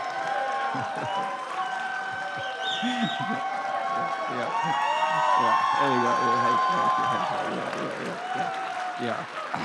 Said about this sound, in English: You think that they are cheering for the singers, but it's for me coming up to preach is what that's about.